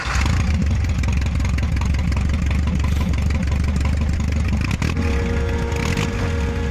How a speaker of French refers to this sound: Nous sommes en Zaporojets, une voiture orange, moche, bossue, qui fait beaucoup de bruit. C'est tout le matin et ça réveille tout le monde.